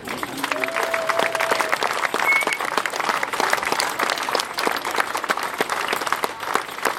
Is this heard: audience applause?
yes